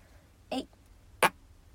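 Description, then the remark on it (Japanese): Two short, soft fart bursts about three-quarters of a second apart, the second sharper and slightly louder, with quiet hiss in between and no talking; a person passing gas built up from a rumbling, digesting stomach shortly before lunchtime. “お腹が、もうすぐお昼ご飯食べる時間なんですけど、消化してるのかゴロゴロいってガスが多分溜まったので、おなら出します。”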